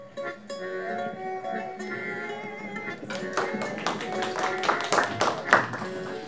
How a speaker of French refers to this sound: Vous mériteriez des applaudissements plus grands.